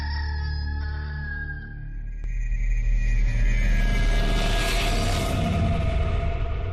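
rooster crowing

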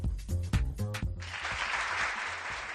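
applause

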